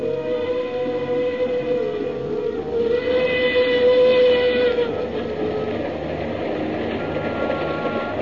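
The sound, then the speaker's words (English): A Cape to Cairo Railroad steam engine's whistle sounds one long, sustained, mournful tone at night over the steady rumble of the moving train, travelling from Port Said to Fashoda in the Sudan, then fades while the low rolling clatter continues. No voices. “The mournful whistle of the Cape to Cairo Railroad engine sounded in the night.”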